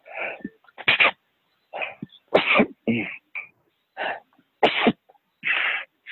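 A rapid fit of sneezes from a person with hay fever, roughly eight or nine sharp bursts in quick succession over a few seconds, loud, with short gaps and no talking between them.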